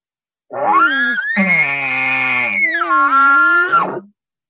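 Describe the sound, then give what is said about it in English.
A person imitates an angry bull elk's call, the call a bull makes when very mad or telling its cows to get back to the herd: one loud, continuous cry that sweeps up from a rough low tone into a sustained high squeal, wavers, then drops away. “This one's a whip ball. When it's super mad or just when it's telling its cows to just get back to the herd.”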